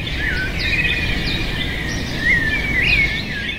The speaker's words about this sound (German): Vogelgezwitscher ist deshalb besser zu hören